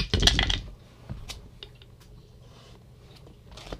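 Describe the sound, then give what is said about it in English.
Dice are rerolled during a tabletop game, clattering loudly across a hard table in a quick rattling burst, followed by a few scattered, fainter clicks and taps as they settle. No one speaks. “So we'll use these extra dice we have on the table as poison counters.”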